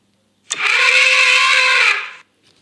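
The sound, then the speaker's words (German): A single loud, harsh elephant trumpet, played as a sound in a quiz, blares for nearly two seconds, brassy and sustained with a sharp start, then cuts off, with no voices around it. “Das ist eher falsch, weil es ist ein Elefant. Aber das ist ja ein Schrei von einem Tier.”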